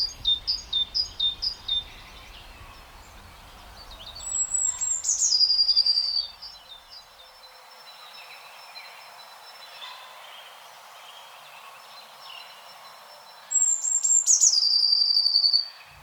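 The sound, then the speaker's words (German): Songs of blue tit and great tit: a quick run of repeated two-note calls, then twice a thin high note falling into a bright trill, clear, no voices. “Und Blaumeisen antwortet, ich bin nicht zimperlich mit dir. Ja, also es sind beides Meisen, genau, darum auch relativ nah verwandt.”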